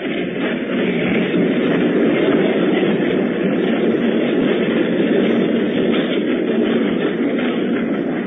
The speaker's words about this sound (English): Oh, that train is going off and leaving us set right here